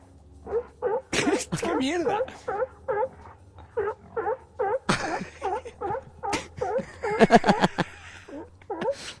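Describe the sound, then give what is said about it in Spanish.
Two sea lions on a sound effects record bark over and over in a steady, honking rhythm, loud, with sharp crackling bursts between calls and a person briefly exclaiming. “Bueno, ya tienes tus leones marinos.”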